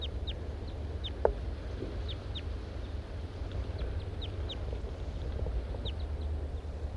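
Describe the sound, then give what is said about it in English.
Two male birds of the large race call in the trees above the recordist and interact to some extent, with a scattered series of short, high chirps repeating irregularly throughout. They are fairly faint over a steady low rumble of background noise, with one brief sharp click early on. “The birds are interacting to some extent.”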